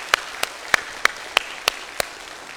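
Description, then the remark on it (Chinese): Seven sharp claps in a steady, even rhythm, an audience clapping together in unison to wish director Fan Lixin a happy birthday, crisp with no talking. “对，刚好今天是范导生日，我想借助各位的掌声来祝范导生日快乐，好不好？”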